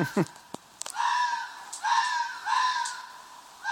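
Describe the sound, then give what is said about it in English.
Two foxes scream while mating, a series of harsh, drawn-out screeches that rise and fall, about four calls back to back after a few sharp clicks at the start, with no talking. “Two foxes f***ing, and f***ing like they hate each other.”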